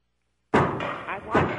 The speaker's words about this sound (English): What is all that noise? What are they doing now? They're hammering in his office next door.